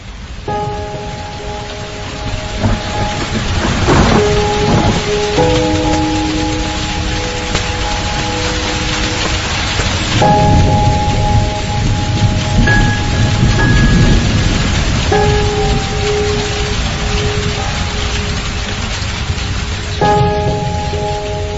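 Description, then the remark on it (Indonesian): Very heavy rain pours steadily at night outside an office, a dense continuous hiss with occasional low rumbles, while soft sustained musical tones drift over it. No one speaks. “Ditambah lagi, hujan sangat deras kala itu, yang membuatku sulit untuk fokus menyelesaikan deadline.”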